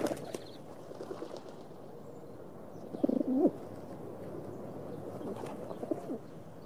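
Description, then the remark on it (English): Pigeons flocking on a pavement coo softly in low, rounded murmurs over a steady outdoor hum, with one louder burst of cooing in the middle and fainter calls scattered around it. “A little further off, a girl has bought a cupful of maize from a little old woman stiff with cold, and the pavement has flooded with pigeons.”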